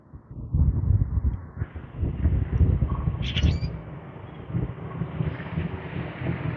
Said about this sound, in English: Hear the grackle. We've had a herd of them in the backyard. I filled the bird feeder and it apparently hatched a lot of birds because the grackles and blackbirds found it.